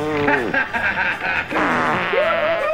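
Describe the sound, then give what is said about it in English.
A voice imitates a farting noise: a continuous buzzy, sputtering raspberry with wobbling, sliding pitch, fairly loud, lasting nearly three seconds with a brief dip midway. It stands for a low farting noise made by George Bush. “George emitted a low farting noise.”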